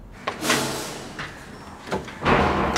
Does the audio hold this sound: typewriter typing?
no